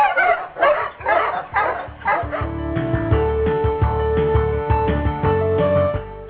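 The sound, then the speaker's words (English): A pack of husky sled dogs barks and yips excitedly in a rapid burst of overlapping calls, loud, before a bright musical jingle takes over and continues to the end. “Must you Huskies? Gee-ha!”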